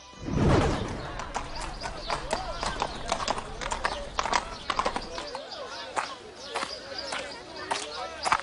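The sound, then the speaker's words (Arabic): Horse hooves clip-clop in a steady, rhythmic series of sharp knocks, continuing throughout, with voices faintly audible underneath and a louder rumble at the start. “هل الحصان مريض؟”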